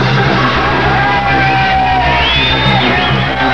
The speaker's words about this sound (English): Here, music is blaring forth from the open windows of an apartment on the corner of Haight and Ashbury, while in the street below, a crowd of hippies celebrates the sunny day. Traffic stops. The crowd grows.